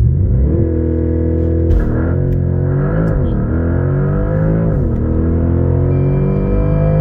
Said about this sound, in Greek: Εμένα αυτό που με ταξίδευε πάντα, εκτός από το look του αυτοκίνητου, ήταν ο ήχος. Ο ήχος αυτός. Ο εξακύλυνδρος του αυτοκίνητου αυτού, να, είτε στην turbo μορφή του,